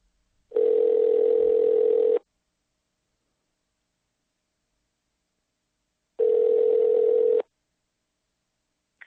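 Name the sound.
telephone dial tone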